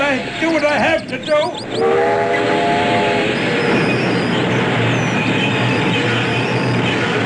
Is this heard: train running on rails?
yes